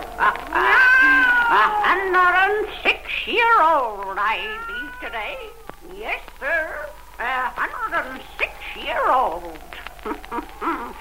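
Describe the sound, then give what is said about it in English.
A black cat named Satan meows and yowls repeatedly, with long, wavering, drawn-out cries that rise and fall, sometimes overlapping into an insistent caterwaul lasting several seconds. “Weird, blood-chilling tales told by old Nancy, the Witch of Salem, and Satan, her wise black cat.”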